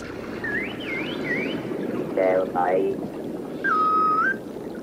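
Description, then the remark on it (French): A series of clear, tonal synthetic dolphin-style whistles, played to dolphins when they choose a symbol: rising and falling sweeps, a couple of quick descending chirps, then a long steady whistle. All are loud, over a low, murky underwater-like rumble. “S'il choisit le H, il entendra ce sifflement-là et aura une caresse.”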